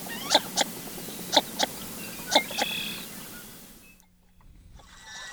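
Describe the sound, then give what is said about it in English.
Northern shoveler ducks giving short, hollow tuk-tuk calls in paired bursts, three pairs spaced about a second apart, over a soft outdoor hiss, then the background drops away. “This is the northern shoveler.”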